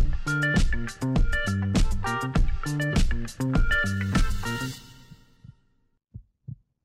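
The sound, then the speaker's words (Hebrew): A heartbeat pulse sound effect: heavy rhythmic pulses thump steadily beneath a droning tonal bed. The sound fades out, then a final soft double beat is heard on its own. No one speaks. “לכדור הארץ יש דופק. יצורים ביולוגיים פועלים על פי מקצב פנימי או דופק פנימי.”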